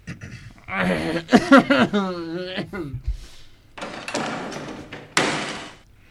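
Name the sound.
door being opened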